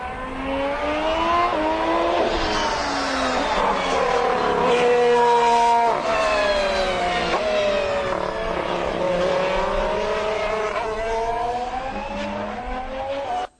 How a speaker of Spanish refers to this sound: El clásico rateo. El rateo, Honda. Las pedorretas, las que pedorretas se de Honda dicen más popularmente, ¿no?